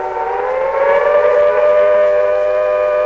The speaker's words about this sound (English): As more Eloi enter the dark chamber beyond the doors, the siren spikes on top retract, and the doors start to close, with Wina inside.